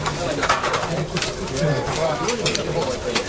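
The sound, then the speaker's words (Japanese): Pigeons coo in a soft, repeated rhythm, their low murmuring calls mixing with people talking in the background. “鳥は行かないもんね。”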